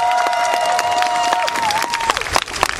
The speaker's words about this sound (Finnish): Aplodit heille siis!